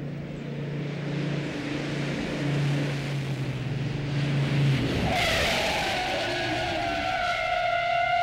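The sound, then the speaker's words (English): A car engine drones at a low, steady pitch, then about five seconds in the tires break into a loud, wavering high-pitched squeal as the car skids under hard braking, its self-adjusting rear drum brakes engaging before the fronts and locking the wheels. No one speaks. “It's expanding, and actually the rears are coming on before the front, causing the cars to lock up.”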